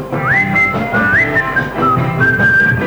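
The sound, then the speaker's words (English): A person whistles a birdsong imitating a sparrow sitting in a tree: a few quick rising chirps followed by short sustained notes and a longer held tone, clear over a steady low background hum. “I think he's singing a song at me.”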